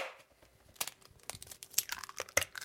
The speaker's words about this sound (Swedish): Nu knäcker jag ägget. Knäcker eller kläcker? Nu knäcker jag ägget åt dig.